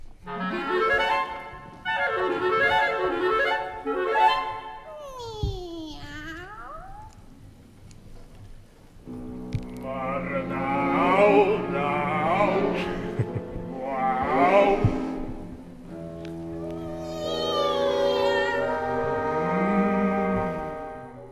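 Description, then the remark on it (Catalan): Two singers trade sliding, meow-like vocal phrases in a comic cat duet from a musical setting of a work, their voices rising and falling like cats, sustained and fairly loud over a low steady accompaniment. “I va ser potser aquesta afició pels felins que li va fer decidir musicar una obra en la qual apareix aquest duo miole que ara escoltarem.”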